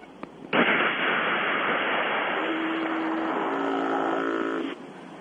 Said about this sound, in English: That foghorn that you heard. I don't know what that foghorn is.